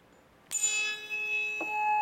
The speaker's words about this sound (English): There are a variety of ways that we can make things vibrate. And this is a tuning fork. And if I whack it, the prongs vibrate. It's a little tough to hear it.